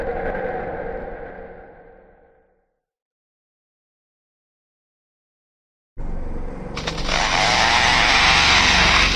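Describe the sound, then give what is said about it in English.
A lyrebird mimics a chainsaw, a loud, harsh buzzing whine that revs up sharply and holds steady. It follows a fading tone and a few seconds of silence. “Isn't a chainsaw. It's a real recording of a lyrebird's chirp.”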